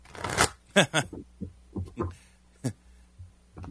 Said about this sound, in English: We shuffle the cards and we cut them into three piles in case anyone's wondering what I'm doing. And it's probably getting picked up by the mic also. So, like, if you did it, that's me shuffling cards, people. I swear